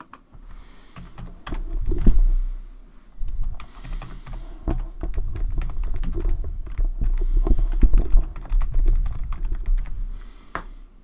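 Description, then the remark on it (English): Rapid typing on an American computer keyboard, with irregular bursts of clicking keys and brief pauses, continuing steadily throughout with no one speaking. “Remembering, of course, that it's an American keyboard, and so you need to either map your keyboard knowledge to the American keyboard or use the virtual keyboard available in commands.”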